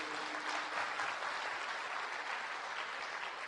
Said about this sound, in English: So thank you, and one more round of applause for all our performers.